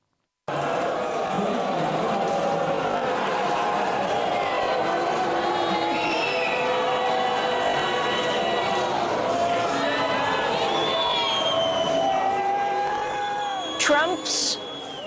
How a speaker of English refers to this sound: Vice President J.D. Vance and Usha Vance were met with a chorus of disapproval as they attended a concert Thursday night at the Kennedy Center. The audience loudly booed as they took their seats for a performance of the National Symphony Orchestra.